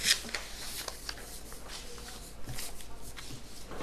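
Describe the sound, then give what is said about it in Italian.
Papery rustling and shuffling as a speaker leafs through many sheets of paper and moves them around, searching for a misplaced one. Soft irregular crinkles and taps, steady and fairly quiet, no talking. “Adesso scusate un attimo, perché tra tanti fogli adesso devo trovare dove ho messo quell'altro.”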